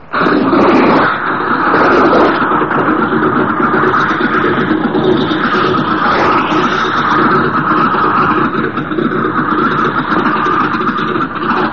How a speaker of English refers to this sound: The plane's engine starts.